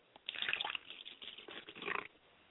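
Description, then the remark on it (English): Liquid is poured out as a libation for a mother's spirit, for about two seconds, a steady splashing trickle with uneven surges that swells, eases, then rises again before stopping, heard alone without any talking. “And I like to pour libation for my mother's spirit, and I say, Ashe.”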